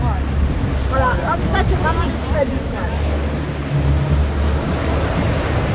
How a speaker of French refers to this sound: Oui, après, vu la mer, l'état de la mer, c'est quand même extrêmement agité